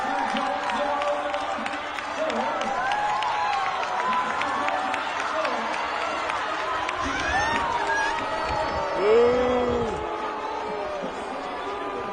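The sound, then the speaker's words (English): A large crowd at the Oregon state track and field championship in Eugene boos loudly and steadily at the 200-meter race, with many overlapping drawn-out low voices and a brief swell near the end, alongside general stadium noise. “And people booed.”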